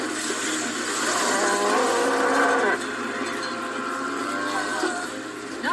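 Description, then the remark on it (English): A cow sucked up into the whirlwind of a tornado lets out a long, wavering moo, then a second fainter one, both half-buried under a loud, steady rushing roar that fills the whole recording. “We got cows.”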